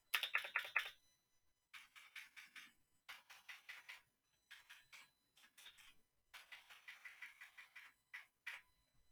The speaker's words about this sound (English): Now for a keyboard, mechanical.